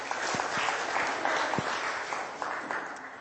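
A room full of people claps steadily, a dense, even wash of many hands at moderate volume with no one speaking, sustained throughout.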